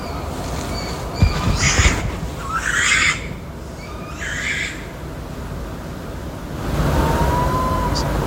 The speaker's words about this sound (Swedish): Ja. Det är många läten här. Ja, det var många läten. Och här fina läten också. Ja, absolut. Och kattugglan är ju vår mest, ska man säga, varierade uggla i sin vokabulär. Alltså vad de använder för läten.